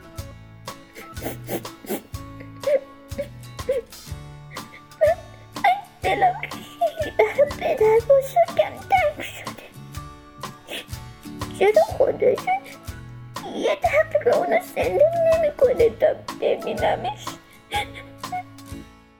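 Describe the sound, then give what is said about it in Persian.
A young voice whimpers and sobs in wavering, high-pitched bursts, coming and going in two longer stretches over a steady, rhythmic low background, moderately loud. “چرا داری گریه میکنی؟”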